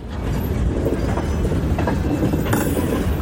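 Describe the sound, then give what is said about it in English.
A goods train rumbles past near Russia's border with Ukraine in the Belgorod area, steady and loud, with a continuous heavy low roar of wagons on rails and faint rhythmic clatter throughout, no voices. “Near Russia's border with Ukraine, the goods trains create an air of normality.”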